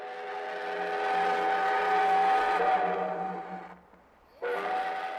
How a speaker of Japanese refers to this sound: 力強い汽笛の音を合図に蒸気機関車が動き始めました。